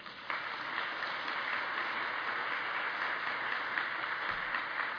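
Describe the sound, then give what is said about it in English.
During a sermon, a crowd breaks into steady applause, giving Jesus a clap, many hands clapping together in a dense, continuous wash that holds at an even level from start to finish with no voices on top. “Now, somebody should give Jesus a clap for that.”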